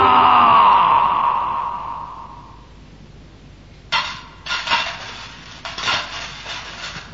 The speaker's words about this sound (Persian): صدای طلاها که به هم میخورد خوشش میومد.